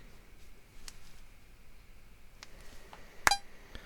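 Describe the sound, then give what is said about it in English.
A few faint, scattered fingernail taps over a quiet background, followed by a short, bright electronic beep near the end, from a tap-to-tone latency measurement app that records the fingernail taps and the beep to measure the latency between them. No one speaks. “It records this fingernail and the beep sound, and then it detects those two waveforms and then tells you what the latency is between them.”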